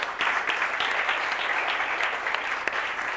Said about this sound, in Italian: Grazie a Dio, Signore, grazie. Un applauso a Gesù.